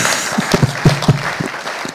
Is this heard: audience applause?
yes